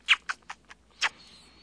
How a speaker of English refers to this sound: Hi, little Jose. Say hi. Say hi, Jose. Say hi. Can you hear that? He's swallowing for you.